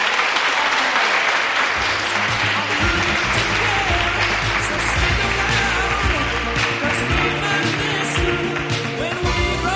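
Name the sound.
students applauding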